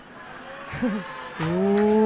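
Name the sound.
cow mooing sound effect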